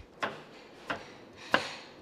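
A knife chops through carrots on a cutting board, three crisp, evenly spaced thuds with a woody snap, each cut sharp and short against a quiet background.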